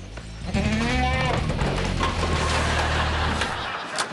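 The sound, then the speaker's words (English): A goat bleats loudly in a long, quavering cry that wavers in pitch as it wrestles with Ted, with rustling and scuffling noise continuing underneath and after it. “Ted and the goat wrestle.”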